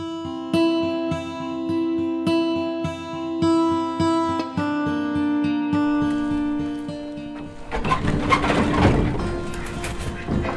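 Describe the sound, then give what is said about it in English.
Pedigree show fowl call loudly and steadily, with long drawn-out crows following one another, then a burst of rough, scratchy bird noise and clamour near the end. “Thomas also keeps pedigree fowl that he regularly shows.”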